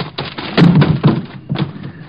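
A scuffle of heavy body thuds as police tackle an armed man and knock him cold to the ground: three dull impacts about half a second apart, with no voices.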